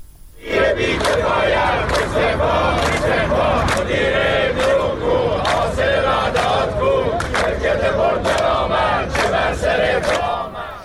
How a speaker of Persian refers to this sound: این تجمعات از جمله در شهرهای چون اهواز، مشهد، شهر کرد، بجنورد و خرم‌آباد برگزار شد و معترضان علیه مسئولان مخابرات و سهامداران حکومتی این شرکت شعار دادند.